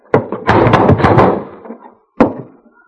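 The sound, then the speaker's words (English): Heavy thuds of a shoulder slamming into a locked door, the first blow followed by a long rattling shudder of the frame, then two more hard hits after a pause, with no talking. “Stand clear of the door. I'm going to crash it.”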